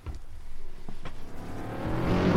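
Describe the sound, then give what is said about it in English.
A small engine, sounding like a moped, buzzes in from the distance, its whine climbing steadily in pitch and loudness as it approaches over a couple of seconds, with no talking. “That's like a moped coming from the distance.”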